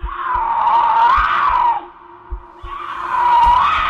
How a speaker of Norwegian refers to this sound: Lyden kommer ikke nærmere, men det hørtes akkurat ut som en puma eller et annet stort kattedyr.